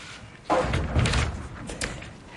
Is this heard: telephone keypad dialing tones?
no